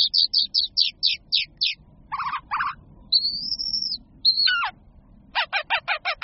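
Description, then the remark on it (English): A phainopepla sings a varied medley of mimicked calls of other bird species: quick repeated chips, harsh descending rasps and a thin sustained whistle, clear over a low background rumble. “The pointy-headed songbirds are talented mimics, often copying the vocalizations of other bird species.”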